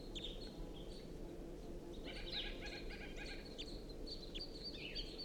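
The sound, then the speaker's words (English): A wild bird perched in a tree above a net sings in a series of bright, high chirps and warbled phrases, with a fuller trilling burst in the middle, over a steady low background rumble, at 6:01. No one speaks. “It's recording a wild bird. It's perched in the tree above the net now, singing.”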